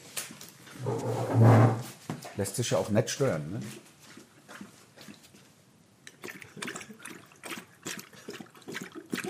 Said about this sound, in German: Wenn Sie sich wundern über dieses schmatzende Geräusch, die Hündin, die hinter uns ist. Ich halte mal das Mikro dran, dass man es noch besser hört.